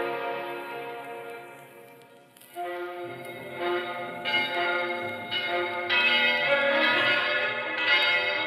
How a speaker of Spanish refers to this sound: Mientras tanto, en Lima, las campanas anunciaban una misa de acción de gracias por la captura de los jefes del Taki Onhoi.